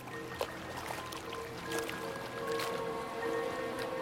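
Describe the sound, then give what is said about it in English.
A faint, steady engine drone from a long speedboat cutting across the horizon, holding an even hum throughout while water laps and splashes softly in gentle waves under bright sunlight. “A long speedboat cuts across the horizon behind him.”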